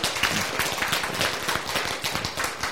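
A crowd claps together in steady, dense applause, many overlapping hand claps forming a continuous crackling wash that holds fairly even in loudness for a few seconds, with no voices over it.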